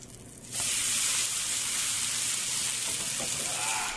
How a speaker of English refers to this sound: when you're one or two people and you don't want to set up the grill or whatever, get yourself a cast iron pan, get it nice and hot, and you don't need anything. Maybe just a drizzle of oil on the steak.